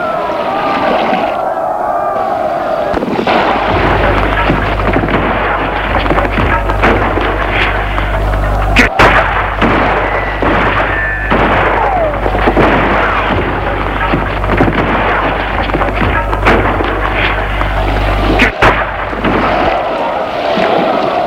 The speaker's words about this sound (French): Gilbert a tiré.